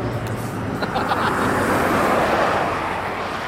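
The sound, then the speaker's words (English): Steady roar of traffic on the Hume Highway heard from the roadside, a broad continuous rush of passing vehicles with some wind buffeting, fairly loud throughout. “Dixie, Nick and James are by the side of the Hume Highway”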